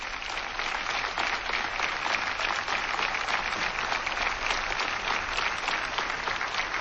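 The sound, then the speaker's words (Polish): Steady applause from an audience of the Polish farming community, in tribute to the poet Norwid, fills the whole stretch, a dense wash of many hands clapping at an even, sustained loudness with no voices standing out. “Bardzo dziękuję za te oklaski dla Norwida.”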